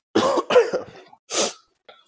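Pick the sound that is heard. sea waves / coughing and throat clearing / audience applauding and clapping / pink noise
coughing and throat clearing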